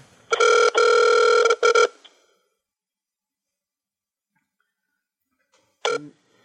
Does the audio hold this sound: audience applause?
no